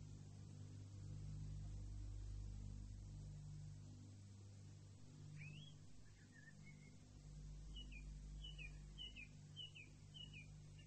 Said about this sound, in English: Makes you feel spring isn't so far away, doesn't it? And the birds.